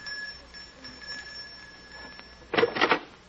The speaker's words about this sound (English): It's this door here. Just ring the bell.